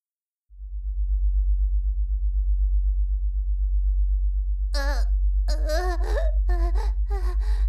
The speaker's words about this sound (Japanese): そうだ。女体化した後にもっともっと気持ちよくなれるオプションを買ったんだった。今回選んだオプションは低周波の誘導音源。これ聞きながらしてみよう。